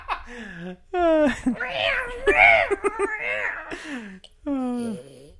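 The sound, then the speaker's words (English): A voice imitates a wailing saxophone solo with sliding, strained tones that sound like a yowling cat, in several rising and falling bursts. “What's that saxophone solo part? Oh, I thought you were like murdering a cat.”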